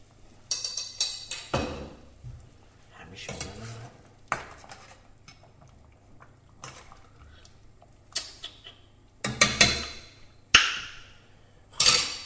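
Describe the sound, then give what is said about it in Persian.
A lid is lifted off a pot of lamb that has been cooking about 55 minutes, with sharp metallic clinks and scrapes, followed by several bursts of clattering cookware and utensil sounds over a low background hum. “خب برگشتم، حدودا 55 دقیقه گذشته و بوی بسیار محشری از این گوشت گوسفنده به مشام میرسه. در قابلمه رو برمیدارم.”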